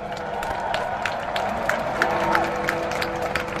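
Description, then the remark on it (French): A crowd of about a thousand people at the foot of the Big Ben tower claps and cheers steadily in dense, continuous applause as Big Ben strikes its twelve chimes at noon, a sustained bell tone ringing faintly underneath the noise. “Voilà les 12 coups applaudis par un millier de personnes au bas de la tour.”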